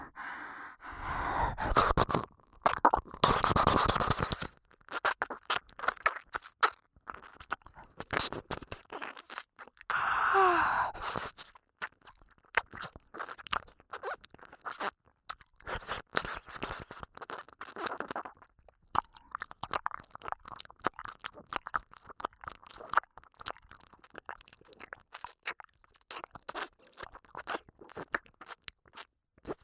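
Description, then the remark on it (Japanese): Wet licking and mouth noises, a steady stream of irregular smacks, clicks and slurps with occasional breathy swells, with no talking. “体を震わせて舐められるのが気持ちいいんだね。”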